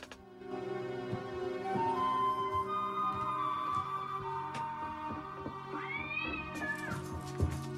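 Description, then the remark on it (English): A cat screeches and yowls continuously and loudly, its strained cry rising and bending in pitch with harsh harmonic wails throughout. “Upon hearing the screeching cat, Jake darts out of the room to investigate.”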